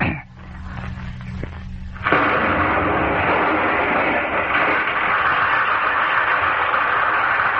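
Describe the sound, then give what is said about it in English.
A man imitates an explosion with his voice as part of an imitation game: a brief low rumbling buildup, then a sudden loud burst of hissing, roaring noise that holds steady for several seconds. “I will sound like an explosion.”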